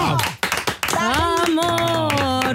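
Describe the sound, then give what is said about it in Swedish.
A short burst of quick hand claps, a handful of sharp strikes in under a second, then a sustained, wavering voice, like a drawn-out cheer or sung note, holding steady. “Åh, applåd!”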